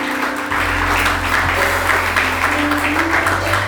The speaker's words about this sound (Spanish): Denle un aplauso a Jesús, por favor.